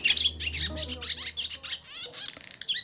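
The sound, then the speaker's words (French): Barn swallows twitter and chatter in a rapid, continuous stream of high chirps and warbles, with a faint low hum underneath during the first half. “L'hirondelle rustique qu'on entend sur RFI.”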